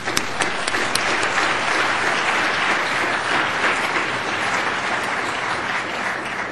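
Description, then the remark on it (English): Sustained audience applause for the speakers after their talks, a dense wash of many hands clapping at steady loudness for several seconds, with a few sharper individual claps standing out early on and no talking over it. “I think we owe our speakers another round of applause.”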